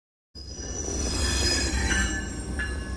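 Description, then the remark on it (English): A train leaving Emeryville, California, on a 3.5-day journey to Washington, D.C. rolls steadily along the rails with a deep rumble, its wheels letting out sustained high-pitched squeals and metallic whines. The sound is loud and continuous, with no talking. “Earlier this week, a Santa Cruz painter boarded a train in Emeryville, starting a 3.5-day journey to Washington, D.C.”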